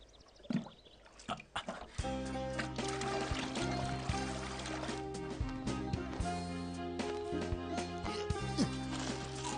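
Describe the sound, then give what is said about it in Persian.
Water drawn from a well is poured onto trees and vegetables to water them, splashing, first on its own for a couple of seconds, then continuing beneath loud, sustained music that takes over and fills the rest of the scene. “از این پس باید با آب این چاه درختان و سبزیجات را آبیاری کرده و اینجا را رونق دهی.”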